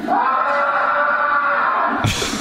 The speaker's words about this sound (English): You're going to use that scream forever, I have a feeling.